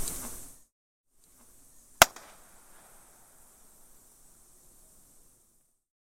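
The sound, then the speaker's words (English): A single sharp bang, like a cap gun or firecracker, given as an impulse, rings out and then trails off in a long, diffuse echo that fades over several seconds inside Deer Cave, a huge limestone cave in Gunung Mulu National Park, Borneo, once the largest cave in the world, now second, with no voices. “Well, I'm now standing inside a cave in Borneo, which used to hold the record as the largest cave in the world and has now been relegated to second place.”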